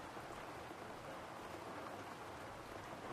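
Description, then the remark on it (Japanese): Steady rain falling outside on a rainy day, heard from inside someone's room, a dense, even hiss of countless drops with no pauses, consistent in loudness throughout, with no voices. “雨の日にこうやって君の部屋でのんびり過ごすの好きなんだ”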